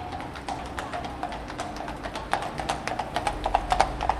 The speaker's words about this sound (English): you can see on the right here, we've got some... mounted policemen, or a policeman and a policewoman on horses.